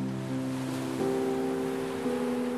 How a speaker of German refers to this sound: Schließe deine Augen und stelle dir vor, du liegst am Strand. Die Sonne wärmt dein Gesicht und du hörst das sanfte Rauschen der Wellen.